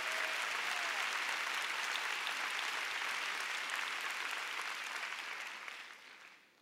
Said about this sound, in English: Come on, give the Lord a big hand. Give the Lord praise. Give Him a big clap.